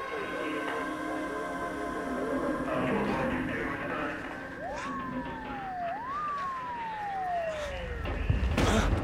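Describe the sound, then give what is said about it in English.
Sirens of police cars gathering below wail in two rising-and-falling sweeps over steady traffic rumble, with a burst of louder noise near the end. “As police cars gather below, Matt starts to come too.”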